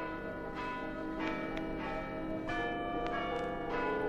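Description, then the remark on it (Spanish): Church bells peal in a lively, uneven cascade of strikes, their rich ringing overtones overlapping and sustaining continuously, with no voices present. The sacristan rings them as a newly married couple leave their wedding. “Pero cuando las campanas volteaban alegres, algo insólito ocurrió.”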